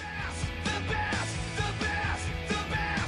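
A male rock vocal screams the same short phrase, "the best", over and over in a tight loop, loud and strained over dense distorted guitars and drums, repeating roughly every half second; a rock song put on a loop on the internet, running almost five minutes.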